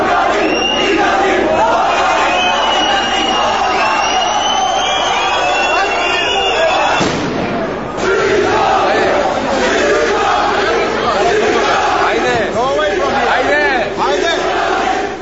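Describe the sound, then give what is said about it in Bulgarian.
A large crowd at the airport in Yerevan, Armenia, greeting the Bulgarian national team, shouts and yells nonstop, voices overlapping in a dense roar, with a sudden sharp firecracker burst partway through. “тълпа посрещна българските национали на летището в Ереван. С бомбички и крясъци цигани.”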